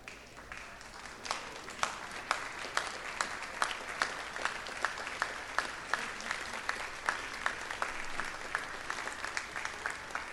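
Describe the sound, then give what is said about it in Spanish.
An audience applauds steadily for about ten seconds, a dense wash of clapping with sharper claps standing out at a fairly regular pace, heard at moderate volume with no one speaking. “después de los aplausos comienza …”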